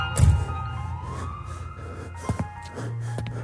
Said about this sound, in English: His song starts with a gentle piano theme, and in the background, you faintly hear things like sirens and car doors. It's really inside of a police station where they take you to book you.